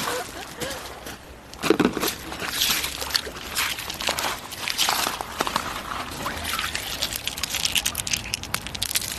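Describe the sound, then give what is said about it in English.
Irregular crunching footsteps on loose pebbles and smooth stones of many sizes at the edge of Lake Zurich, with stones clicking and grinding underfoot in a steady, shuffling rhythm that stays fairly loud throughout. “We're just right at the edge of this lake, and there are pebbles and smooth stones of lots of different sizes.”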